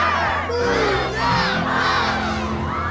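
A large group of voices shouts the word "bus" together in unison, loud, the chant swelling and rising over three seconds like an excited crowd cheering as one.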